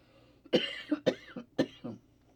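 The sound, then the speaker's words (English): Three sharp coughs in a steady rhythm, each followed by a short rasping catch of breath, loud against a quiet background, during a KFAI radio broadcast from Minnesota. “Well, before I go into today's show, first thing I'm going to do is cough, excuse me.”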